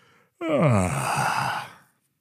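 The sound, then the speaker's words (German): A single drawn-out yawn, voiced by a person imitating a big polar bear, starting with a deep groaning tone that slides down into a long breathy exhale, fairly loud. “Doch zu ihrer Überraschung öffnete der Eisbär ein Auge und gähnte.”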